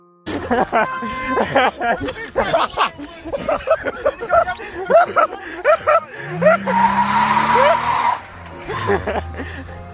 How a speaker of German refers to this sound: in welchem Rainer ihnen aus dem Auto etwas entgegenbrüllte und dann mit quietschenden Reifen davonfuhr